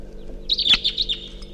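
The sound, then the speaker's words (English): A wild bird flying around at 6:00 a.m. calls with a rapid series of high, thin chirps and trills lasting about a second, clear over a low steady background hum. “Wild bird flying around.”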